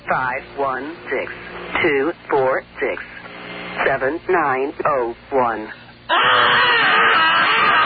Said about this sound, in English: That's not me screaming.